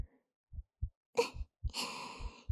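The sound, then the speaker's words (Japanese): A slow heartbeat heard from a woman's chest during an embrace thumps low and muffled in lub-dub pairs, while a soft breathy sigh and a long exhale drift over the middle of the beats. “私の胸の中、温かいでしょ？心臓の音も聞こえるかしら。”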